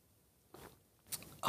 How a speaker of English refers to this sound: Fill it with your favorite liquid. I like coffee. And join me now for the unparalleled pleasure, the dopamine of the day, the thing that makes everything better. It's called the simultaneous sip. It happens now. Go.